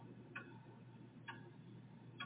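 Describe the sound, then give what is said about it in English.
A large clock ticks slowly and steadily, three evenly spaced, resonant ticks about a second apart over a constant low hum, with no voices. “I sweat of every minute past as the tick-tock of the giant clock then intensifies into a madness reverberating, a loud clang of steel.”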